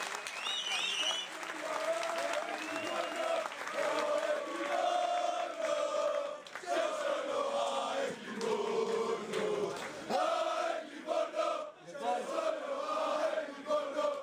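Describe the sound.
An audience applauds steadily for about fourteen seconds as a friend from Livorno is called up: a dense, even clatter of clapping mixed with sustained crowd voices cheering or chanting over it, with a brief dip around the middle.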